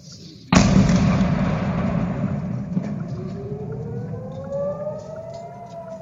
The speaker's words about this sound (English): The first rocket, he explained, fell just a few meters from the falafel shop. As you'll hear, the sirens come after the second rocket landed.